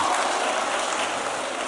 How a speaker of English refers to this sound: You clap, you know clap, you know me.